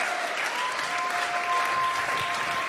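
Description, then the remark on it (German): An audience claps steadily and densely throughout as a woman comes onto the stage, a sustained wash of applause with no pauses, with a faint steady tone sounding through the clapping. “Lass uns mal aufstehen und dir einen fetten Applaus geben, während sie auf die Bühne kommt.”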